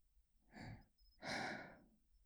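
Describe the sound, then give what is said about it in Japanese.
Two airy breaths blown right at the ear, a short soft puff followed by a longer, stronger exhale that trails off. Breathy, hissing, with no voice. “こんな風に耳に吐息のかかるような、いたずらはこの辺でやめておきましょうか。”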